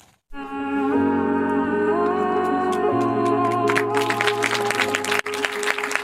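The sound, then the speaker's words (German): Sustained orchestral-style music with steady bass notes plays, then a dense burst of audience applause rises over it in the final seconds, crackling and loud alongside the lingering chords, in the Cinelux cinema in Geneva, for a documentary about historic court rulings in the Netherlands. “Applaus im Genfer Kino Cinelux für einen Dokumentarfilm über historische Gerichtsurteile in den Niederlanden, wo Klimaschutzorganisationen gegen den Staat klagten und siegten.”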